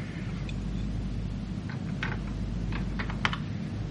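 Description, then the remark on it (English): A few small metallic clicks and scrapes of keys fumbling in the door lock of a locked yellow car, scattered over a couple of seconds against a steady low background hum, with no talking. “try the keys from Lakin's pocket”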